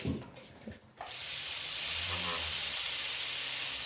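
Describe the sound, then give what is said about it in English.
A silversmith's pendant drill, fitted with tiny drill bits for detailed work, starts up after a short quiet moment and runs steadily, giving a loud, continuous hissing whir over a faint low hum. No one speaks. “So just a pendant drill that tiny little drill bits in it. So it's perfect for little detailed work.”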